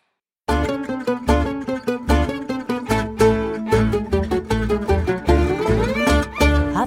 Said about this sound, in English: We've got English Bluegrass and Western Swing duo, from Birmingham.